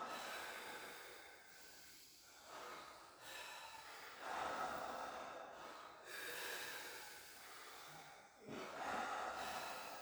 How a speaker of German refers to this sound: Nehmt die letzten 5 Atemzüge in eurem eigenen Tempo.